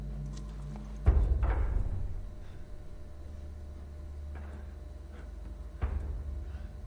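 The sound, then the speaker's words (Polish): A few heavy, uneven footsteps thud over a steady low rumble, with a louder pair early on and another step near the end; no one speaks. “Słyszę jakieś kroki.”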